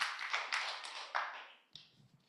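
A small group claps for a child for a couple of seconds, a dense patter of overlapping hand claps that thins out and fades near the end.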